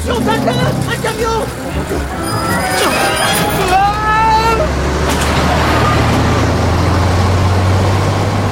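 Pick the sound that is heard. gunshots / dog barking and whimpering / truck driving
truck driving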